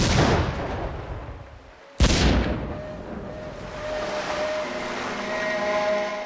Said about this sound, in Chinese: 所以当哈瓦那发生暴乱时，他命令军舰缅因号开赴那一岛。1898年年初的一个晚上，缅因号军舰发生大爆炸，军舰沉没了。